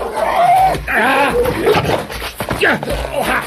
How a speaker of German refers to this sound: Ruf den Hund zurück!